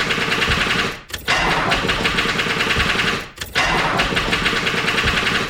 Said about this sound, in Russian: Смолк шофер, заглох мотор, не починит до сих пор.